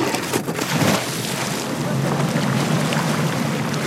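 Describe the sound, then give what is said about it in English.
A repurposed lobster boat's engine drones steadily over a constant wash of water and wind noise, loud, with no clear talking throughout, as 1,600 seaweed-laden buoys are sent into the water. “For now, from a repurposed lobster boat, the Running Tide team is laying some groundwork, sending 1,600 seaweed-laden buoys into the water.”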